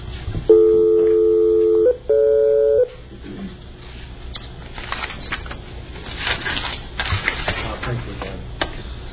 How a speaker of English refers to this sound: Phone can go dial tone. Oops. We must have lost him.